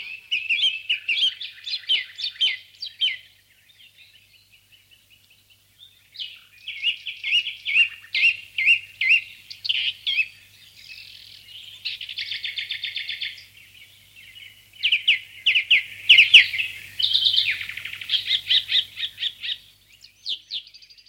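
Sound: sparrow chirping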